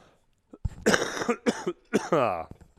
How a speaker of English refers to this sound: I can't shake this cough. You're not going to pause that, are you? You're just going to leave it in. I've still got the same cough.